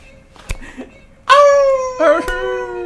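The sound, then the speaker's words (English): A person imitates a dog howling: a quiet lead-in, then a loud, sustained wavering howl that slides slightly downward, with a brief second rise near the end. “His crucifixion was horrible. The howling.”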